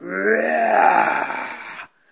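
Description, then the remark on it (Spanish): A single drawn-out roar voiced by a narrator imitating a lion giving the starting signal for a race in a told story, loud and gravelly with a low, rough rumble that holds steady for nearly two seconds before cutting off abruptly. “Al oír el rugido, la liebre salió disparada, perdiéndose de vista en un santiamén.”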